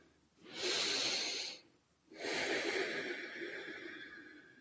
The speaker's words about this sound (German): Und kurz Pause, nochmal tief ein- und ausatmen.